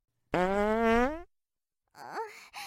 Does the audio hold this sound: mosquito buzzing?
no